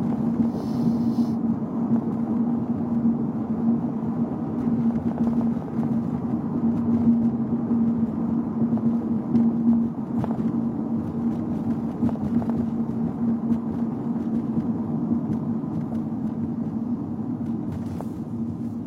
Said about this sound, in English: Garbage truck getting gas. Big truck driving by.